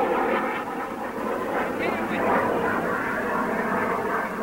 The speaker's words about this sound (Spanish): Ahí se ve el avión atacante. Pasa, se pierde hacia la derecha. Otro avión más. Ahí pasó.